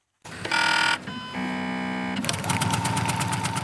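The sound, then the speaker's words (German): A Bernina sewing machine whirs with a steady motorized whine that shifts pitch, then breaks into rapid, even stitching clatter, fairly loud with no voices, in an outbuilding of the Bernina sewing machine factory above the Untersee on Lake Constance, Switzerland. “In einem Nebengebäude wird genäht.”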